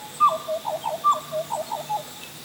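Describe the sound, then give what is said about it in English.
A female butcher bird sings clear, fluting whistled notes in two similar rising-and-falling phrases in a rainforest, distinct over a faint hiss of background, with no talking. “There's the butcher bird again. She's singing her song to let the other birds know this is her part of the rainforest.”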